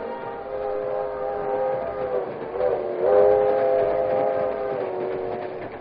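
A westbound passenger train rolls along the rails with a steady rumble while a long, droning horn sounds throughout, swelling louder near the end. Loud, with no voices.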